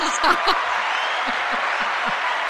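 A crowd applauds steadily, a dense wash of clapping filling the whole stretch at moderate loudness, with a few brief murmurs or calls poking through underneath.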